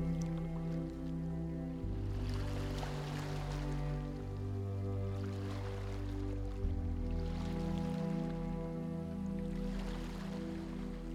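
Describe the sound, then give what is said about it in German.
Small, gentle ocean waves roll in slow, regular swells about every three to four seconds, a soft hissing wash layered under a steady, sustained musical drone. No one speaks. “Und ganz langsam kannst du auch die Wellen hören, die ganz sanft immer wieder gleichmäßig auf dich zurollen.”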